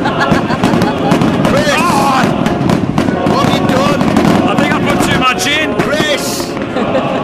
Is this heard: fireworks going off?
yes